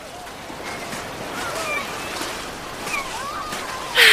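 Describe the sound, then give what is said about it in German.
Steady rushing roar of strong wind and surf on a North Sea beach, continuous and fairly loud, with a few faint high calls drifting through and a sudden louder gust at the very end. “Meinst du den Wind? Der ist heute ganz schön stark hier am Strand.”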